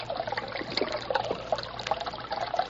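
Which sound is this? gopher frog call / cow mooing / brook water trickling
brook water trickling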